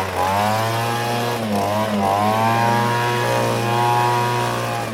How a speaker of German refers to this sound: wenn nicht die keiben Laubbläser wären